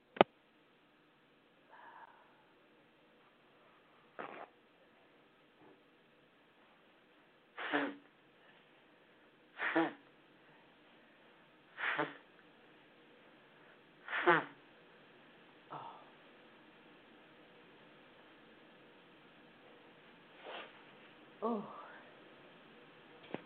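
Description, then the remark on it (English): Someone blows their nose after sneezing, about eight short, breathy honks spaced a few seconds apart, with no talking. “I got to blow my nose because I sneezed.”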